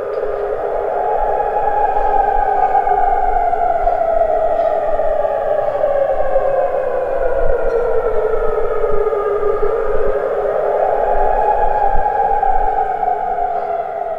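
Successive rounds of air raid sirens wail across Jordan at 7 a.m. on a Saturday morning, their pitch slowly rising and falling in long sweeps, loud and sustained with no voices present.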